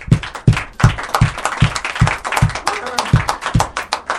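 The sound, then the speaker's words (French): An audience applauds at the close of the broadcast Foot Folk, its clapping falling into a steady rhythmic beat of about two to three claps per second, loud and continuous over a bed of scattered hand claps and crowd noise. “Oh, vous pouvez même vous applaudir parce que vous étiez très très bon.”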